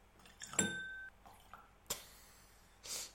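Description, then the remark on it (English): A small splash of water goes into a glass of malt whisky: a soft clink with a brief bright ring, then a couple of short, quiet splashy bursts. No one speaks. “Could you put some water in for me, please?”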